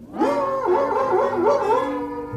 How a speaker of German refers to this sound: Aber der heulende Hund kommt auch vor. Natürlich. Haben Sie das auf Band? Ja, Moment mal.